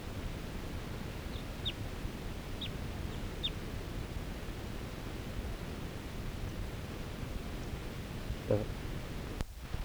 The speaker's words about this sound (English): This is the same bird that was tooping before.